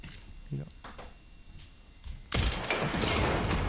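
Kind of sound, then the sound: sound effect, video game gunfire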